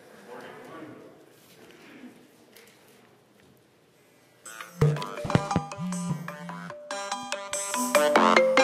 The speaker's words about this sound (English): There we go. I was playing with these ringtones at home.